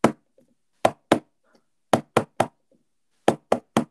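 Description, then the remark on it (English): Sharp knocks on a door, done as hotel housekeeping would knock, in spaced groups: a single knock, a quick pair, then two bursts of three raps, with brief silence between. No one speaks. “Right, that's four knocks. Four knocks, cool.”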